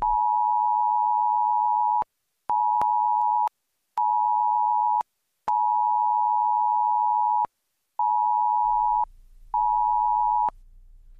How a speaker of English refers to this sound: Doesn't have a beat, can't dance to it, but the government may impose that on your cell phone in case of an emergency. And again, those were all just for demonstration purposes. There is no emergency at this time.